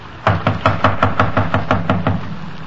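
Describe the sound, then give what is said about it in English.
Police officers knock on the front door of a house in a rapid series of about a dozen firm, evenly spaced knocks, with no voices alongside. “Not answering. Come on, open up in there. We know you're in there. Come on. Open the door.”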